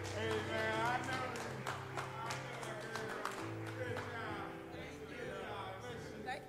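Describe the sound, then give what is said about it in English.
A church audience at John Shepherd AME Church claps steadily for several seconds, a dense patter of many hands, with voices calling out and talking over the applause throughout, praising a woman honoured for outstanding service. “Let's give her a hand clap of praise.”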